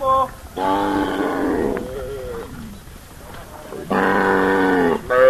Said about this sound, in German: Ole Kenwa treibt sein Vieh auf die Weide, bevor es zu heiß wird. Eine große Herde, Ziegen, Schafe und Rinder.